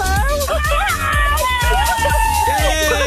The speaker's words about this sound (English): This sounds like a bit of a party in the car.